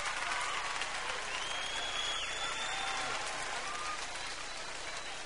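Women in an audience clap steadily, a dense, even wash of applause that holds at a fairly constant level for several seconds with no voices standing out above it.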